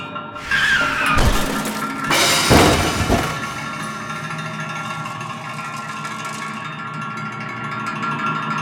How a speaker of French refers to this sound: Elle ne ralentit pas malgré les appels de phare et emboutit la voiture du docteur